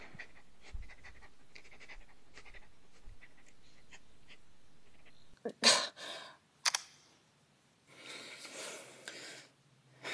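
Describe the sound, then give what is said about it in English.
At 2 in the morning, a dog pants heavily over a phone line, quick rhythmic breaths that sound thin and a little distorted, with a few sharp clicks and bursts of noise breaking in partway through. “Well, I guess somebody's dog must have pod-dialed the wrong number.”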